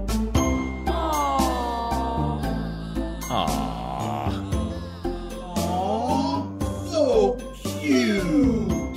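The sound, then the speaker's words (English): A cutesy "aww" sound cue: swooping, sing-song vocal tones rise and fall several times over tinkling, chime-like music, steady and fairly loud for about nine seconds. “can we sound cue in awe there? Like the most obnoxious cutesy.”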